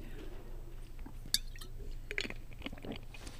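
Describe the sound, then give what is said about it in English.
Someone takes a drink of water: quiet wet sipping and swallowing with a few small mouth clicks, soft and brief over a low background hum, with no talking. “But I'm going to get some water here first.”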